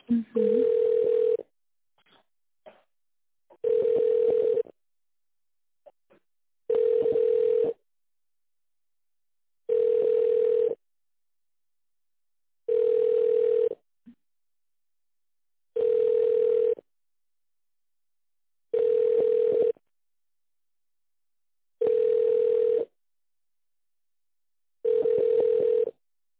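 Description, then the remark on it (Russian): A telephone line tone repeats while the caller is on hold with the Yukramed medical centre: nine evenly spaced, steady mid-pitched beeps, each about a second and a half long, separated by silence, with no voices. “Секунду, оставайтесь на линии.”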